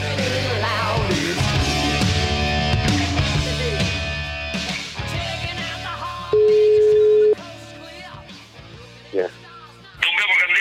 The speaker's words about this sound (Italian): La voce che ha risposto è quella di Lotito. Subito dopo era la telefonata.